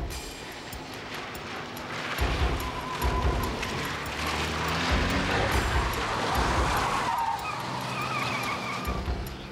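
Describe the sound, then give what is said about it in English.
At night, a brown Camaro chases a young woman's car; cars roar past at speed with engines revving, and tires squeal and skid in drawn-out screeches. The noise is loud and continuous throughout, and no one speaks. “a truck driver said he saw a brown Camaro chasing a young woman in a car similar to Caitlin's”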